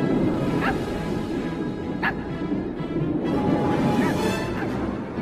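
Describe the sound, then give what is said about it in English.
A small dog, Zero, Jack's little ghost dog reindeer, gives a few short, high yaps spaced unevenly over about five seconds, set against a steady, dense background wash. “And what to your wondering eyes disappears is Jack's little friend Zero, the ghost dog reindeer.”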